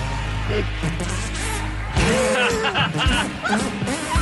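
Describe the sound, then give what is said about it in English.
Wet, squelchy hand farts made by a kid play a song melody in a quick run of pitched, sputtering bursts, loud, after a steady low hum in the opening seconds. “How does he rate with our American hand farter?”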